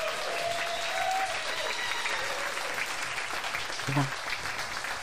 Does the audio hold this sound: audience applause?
yes